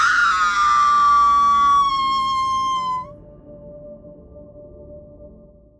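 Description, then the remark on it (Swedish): A loud, piercing, terrified roaring scream rings out alone for about three seconds, its pitch sagging slightly before it cuts off, leaving a faint lingering tone that slowly fades. “Så hörs ett vrål som är fyllt med så mycket rädsla att det får mig att kastas ut ur huset och ut ur sömnen.”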